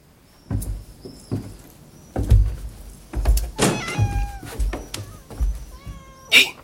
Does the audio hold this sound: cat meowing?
yes